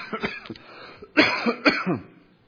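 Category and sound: human body sound, repeated coughing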